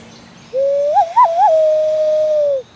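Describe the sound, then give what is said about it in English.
A loon call imitated by blowing through cupped hands: one sustained, hollow, mournful tone lasting about two seconds, with a few quick warbling wavers near the start, heard alone. The Merlin Bird app identified it as a loon. “You know, it's a very melancholy call, which is very beautiful. I can do it on my hands.”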